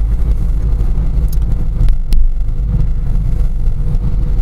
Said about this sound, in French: Je suis à Civrieux-d'Azergues. La route est recouverte de neige. petite couche quand même, hein, faut quand même pas abuser. Je roule au pas.